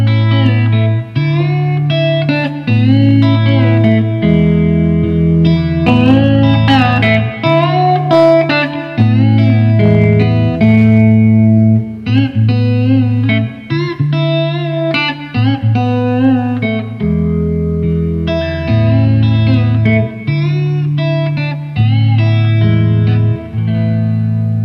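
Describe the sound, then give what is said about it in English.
An electric guitar with a clean tone plays steady chords and melodic lines for the whole stretch, run through a reverb pedal and a chorus pedal, its tone washed in reverb and a shimmering chorus effect, loud with no voices. “Yeah, I just got a little, I have a little reverb pedal on here and then a little chorus, but nothing special, you know, it's just”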